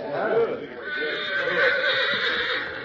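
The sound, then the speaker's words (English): A horse neighs loudly, a long, shrill whinny that wavers in pitch and carries on for roughly three seconds without a break. “Here your horse”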